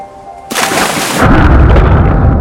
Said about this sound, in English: A group of divers put their tanks, flippers and masks on. One jumps in.